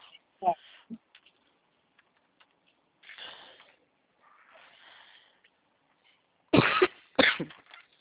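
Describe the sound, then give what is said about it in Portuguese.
Two harsh, loud coughs burst out close together near the end, after several seconds of quieter breathy rustling and faint throat noises. “Ah, ignora minha tosse, tá,”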